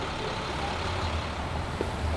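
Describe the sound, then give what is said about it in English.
Steady low rumble of heavy city road traffic, with trucks and buses droning past and a brief hiss of air brakes, no voices. “And for Schaefer, these are closer to the sounds associated with cities, traffic, and transit, stuff like that.”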